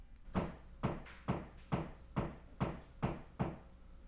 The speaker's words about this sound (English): We'll persevere. We'll persevere through the hammering.